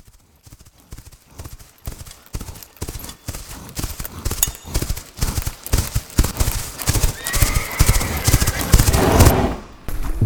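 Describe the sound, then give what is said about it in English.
Heavy hooves of the horseman's giant war horse, nearly twice the size of an old mare, pound in a steady, quickening rhythm, growing louder as they approach, and a loud, shrill horse whinny rises near the end before the hoofbeats continue. “His war horse was nearly twice the size of Ichabod's old mare.”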